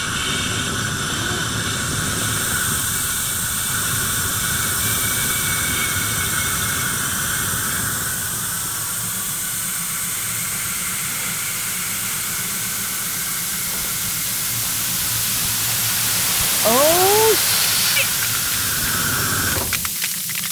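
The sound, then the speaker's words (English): Thrown chemical ice grenades hiss loudly and steadily, a broad spraying rush that fills the scene for about twenty seconds, with a few brief rising whistles near the end. No one speaks. “Is that what I think it is? Chemical ice.”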